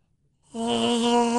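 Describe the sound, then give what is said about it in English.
After a moment of quiet, a person lets out one sustained, throaty vocal growl, fairly loud, attempting a Chewbacca (Star Wars) roar impersonation but coming out as a strained, fairly steady tone. “Thanks to Sinus and Snoring Specialist, I can no longer do a Chewbacca impersonation.”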